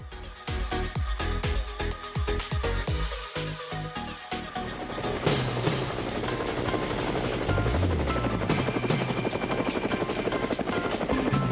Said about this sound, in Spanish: Llegó el helicóptero.